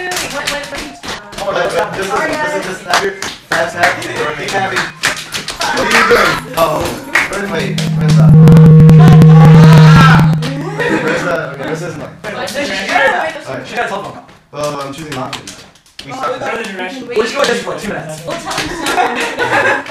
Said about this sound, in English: Yeah, okay, so everyone, okay, it's nighttime, put your heads down, and slap your hands on your legs.